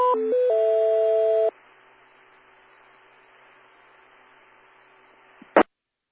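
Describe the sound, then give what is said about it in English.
Ham radio repeater timeout tones: a quick run of loud electronic beeps stepping between pitches, then a long stretch of faint radio hiss with a thin steady tone, cut off by a short squelch burst. “Repeater. Timeout. Cancel.”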